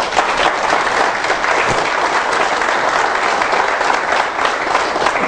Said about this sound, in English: You believe in Jesus today, give the Lord a hand of applause.